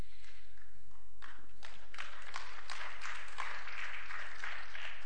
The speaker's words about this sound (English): And if you're clapping, it's because you understand that too.